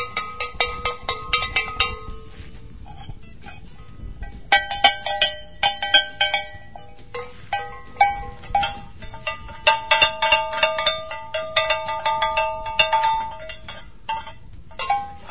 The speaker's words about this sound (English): Here we've got three different bells. Each one has a different tone.